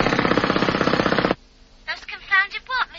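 Road drills hammer loudly outside in a fast, steady rattling burst for over a second, then cut off abruptly; after a short pause a man's voice speaks.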